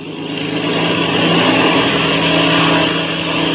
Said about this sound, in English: As daybreak neared, the famous pilot and Chuck Ramsey climbed into the cockpits of the black two-seater and warmed up the engine. Then they start their takeoff.